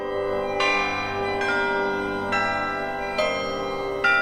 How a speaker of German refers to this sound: Die Wissenschaftler der NASA-Mission Stereo haben dabei die Kirchenglocken der Universität von Kalifornien als Vorlage genommen. Eine gewisse künstlerische Freiheit muss man ihnen wohl zugestehen.